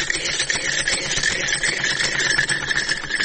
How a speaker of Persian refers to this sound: اینمی لباسای را که می بینیم بند است، تمامش توسط از این ماشین دوختیم که از مشتری هست